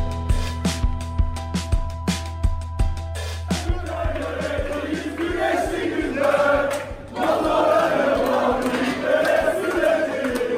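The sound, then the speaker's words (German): A large crowd of Ekrem İmamoğlu's supporters cheers and chants in unison at the CHP party headquarters in Istanbul after a Turkish opposition win in an election rerun. It is loud, with rhythmic sharp bangs like drumbeats or claps early on before the roar of voices swells. “Nein, hier feiern keine Fußballfans, hier jubeln die Anhänger von Ekrem İmamoğlu in der Parteizentrale der CHP in Istanbul nach einem Sieg der türkischen Opposition, der bei der Wahlwiederholung viel klarer ausgefallen ist als beim ersten Mal.”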